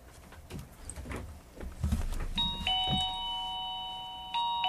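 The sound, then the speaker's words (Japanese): A motion sensor chime from a transmitter-and-chime set rings out clearly with bright, sustained electronic tones as a person approaches the sensor, after some soft handling thumps and rustling, then sounds again briefly near the end. Fairly loud, no talking. The chime unit is a rectangle about 8 cm across. “人が近づきますとチャイムが鳴ります。”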